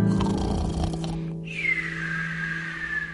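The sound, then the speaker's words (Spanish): A voice imitates snoring as part of a sing-along action song: a rough, rumbling snore on the in-breath, then a long whistling exhale that slowly falls in pitch, heard clearly over a steady low hum. “Ahora vamos a roncar.”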